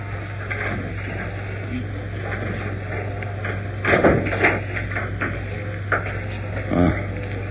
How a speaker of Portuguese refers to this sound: O senhor trouxe a chave do banco? Sim, trouxe. Aqui está. Vamos entrar para ver o que aconteceu? Vamos. E, por favor, abra a porta.